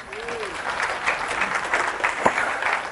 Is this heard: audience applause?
yes